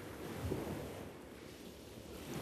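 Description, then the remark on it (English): A steady, rushing wash of surf, like waves breaking and rolling onto a beach, with a soft low rumble and faint swells in loudness. No voices are heard. “Probably the ocean or like the waves.”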